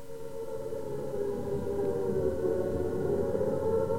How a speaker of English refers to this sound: I didn't hear anymore because the sirens started to go like mad outside.